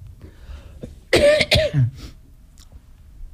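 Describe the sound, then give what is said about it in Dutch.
Three quick coughs in a tight cluster, ending in a low throaty rasp as someone clears their throat, with quiet background noise before and after. “Nou, kuchel en hoest hier, hoor.”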